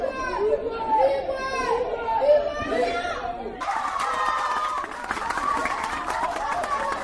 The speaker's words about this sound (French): Applaudissements, cris d'encouragement.